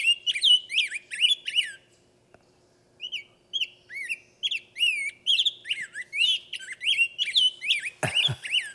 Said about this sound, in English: Well, in the last 30 seconds, I want to hear a rose-breasted grosbeak. Have we got one up there? Another nice, clear whistler, but it's back and forth and back and forth.